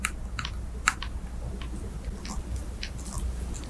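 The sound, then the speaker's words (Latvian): Woodworm beetles ticking inside wood, the mating sounds made when females want to mate: a dozen or so sharp, dry clicks at irregular intervals, some in quick pairs, over a steady low hum with no talking. “Vēl par ķirmju klātbūtni liecina šādi tikšķi.”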